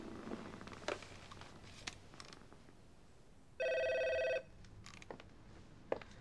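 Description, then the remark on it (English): A single ringback tone heard through a phone line, a steady electronic burst lasting under a second amid faint background clicks and room noise, with no voices. “Well, why do you try calling?”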